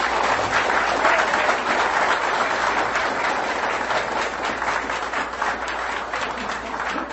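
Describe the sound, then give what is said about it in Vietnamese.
A large audience claps steadily for students completing a basic Buddhist teachings course, a dense wash of applause that stays loud and even for the whole stretch with no voices over it. “Xin quý vị một lần nữa một tràng pháo tay thật lớn.”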